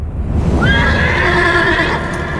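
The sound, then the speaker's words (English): A horse lets out one long, loud whinny that wavers in pitch for over a second, set against a steady low rumble of movement with faint hoof sounds, as black desert chargers gallop across the land carrying 50 warriors. “They galloped across the land on black desert chargers, 50 warriors following Jardir and Ashan on their white stallions.”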